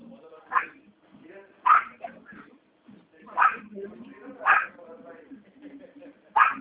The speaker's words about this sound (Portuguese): Tem um cachorro.